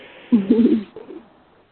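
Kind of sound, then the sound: bird, birds cooing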